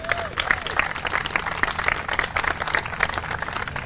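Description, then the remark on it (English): A crowd breaks into steady applause for an announcement of affordable senior housing, many hands clapping in a dense, continuous patter that fills the space at moderate loudness for several seconds. “Somebody can clap for that.”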